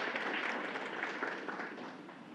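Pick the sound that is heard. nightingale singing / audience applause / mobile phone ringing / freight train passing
audience applause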